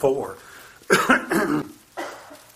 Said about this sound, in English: A lot of kind of coughing. There's lots of congestion going around and that kind of stuff. And I'm like the rest of you, so we're all choked up together, I suppose.